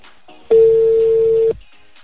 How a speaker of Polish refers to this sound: odbierz ten telefon, słuchaj, bo tu już 13 minut, zrobi się godzina 8:00, kolejka w poczekalni.